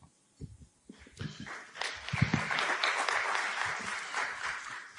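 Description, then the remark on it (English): Audience applause starts with a few scattered claps, then swells into steady, sustained clapping from a crowd that holds at a fairly loud level to the end. “So with the clapping, we must choose.”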